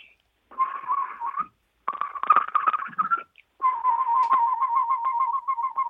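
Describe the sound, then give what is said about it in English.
A person whistles imitations of bird calls in three bursts, warbling and trilling around a steady mid-high pitch, with rapid fluttering pulses in the middle and a wavering run at the end. “But my son in particular, when he was a little boy, we'd be in the backyard and birds would be making their calls and I would imitate them.”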